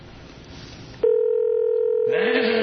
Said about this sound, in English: Make that phone call there. Wonder if anyone can. It's kind of like dialing for dollars. Can someone guess his number by the beeps there?